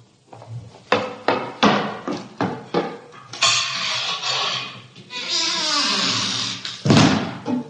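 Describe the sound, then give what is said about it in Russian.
A run of sharp clattering knocks gives way to a long scraping rush as a door is opened, ending in a dull thud. No one speaks. “Открой дверь мистеру Андерсону.”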